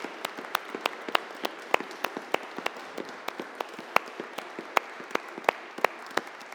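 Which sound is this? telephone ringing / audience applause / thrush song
audience applause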